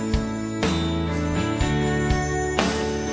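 Bells ring again and again, their bright metallic tones overlapping and hanging in the air as fresh strikes land every half second or so, fairly loud throughout with no voices.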